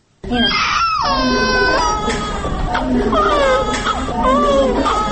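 A newborn baby cries loudly, with continuous high-pitched, wavering wails that rise and fall for several seconds with only brief catches of breath. The baby is one of newborn twin boys, each over 2 kg, born at Maternity Hospital No. 1 in Dushanbe, Tajikistan.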